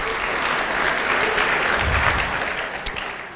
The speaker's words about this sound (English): So I'd like to give them a round of applause. Would you join us?